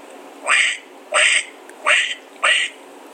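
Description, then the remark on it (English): A person imitates a duck with four loud, raspy quacks in an even rhythm, each short and nasal, spaced about two thirds of a second apart. “I have a decent little duck call. You want me to roll it out on you here?”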